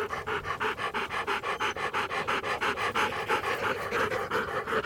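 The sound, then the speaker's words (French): A dog pants rapidly and steadily, with quick rhythmic breaths repeating throughout and no talking. “Lorsque l'animal fut tout près, Charlotte poussa un cri de surprise. C'était bien Chien Bleu”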